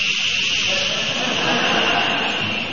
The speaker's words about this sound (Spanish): ¿Qué es un palo de lluvia? Creo que es un instrumento musical. Sí, ¿no? Es ese que usted lo da vuelta y hace.